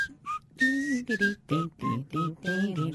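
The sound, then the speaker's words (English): A short catchy TV theme melody whistled in a quick run of clear, distinct notes with brief gaps between them, steady in loudness, with no talking. “And being a TV theme, it'll be ingrained in our heads and we'll be whistling it all.”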